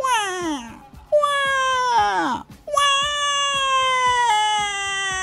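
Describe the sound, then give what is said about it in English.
A baby screams in loud, high-pitched wails heard through a wall: three drawn-out cries in a row, the first two sliding downward in pitch, separated by short gasping breaths. No one else speaks. “You can hear a baby like they're in the room with us.”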